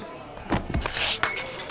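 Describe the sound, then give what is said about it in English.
A drinking glass clinks and breaks in a quick burst of sharp, bright crashes and tinkling shards lasting under two seconds, with faint background murmur. “You broke my glass.”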